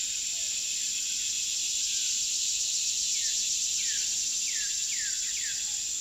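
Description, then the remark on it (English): Cicadas drone in a loud, steady, continuous buzz from tall trees at a prairie preserve campground near the Kansas border on a hot summer afternoon, while a cardinal sings a few short downward-slurred whistles partway through. “I set up my tent in the park campground and then nap away the hot summer afternoon, serenaded by cicadas and a cardinal singing from the tall trees overhead.”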